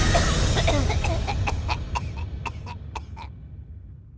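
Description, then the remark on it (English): A run of short, rough coughs, around eight in quick even succession, follows a brief noisy rush of air, then everything falls silent. No one speaks. “Then the sound of coughing.”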